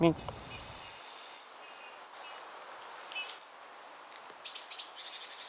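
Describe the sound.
Greenfinches, blackbirds and bullfinches call in a quiet outdoor setting on a sunny day: thin, high chirps and buzzy notes scattered throughout, with the blackbirds calling in alarm and a brighter burst of calls near the end. A voice is heard briefly at the start.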